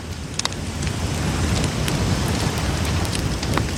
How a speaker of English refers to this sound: Gather closely, my friends, and let the crackling campfire illuminate the shadows